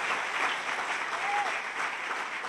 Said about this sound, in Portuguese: Você pode aplaudir o Senhor por isso também? Aleluia.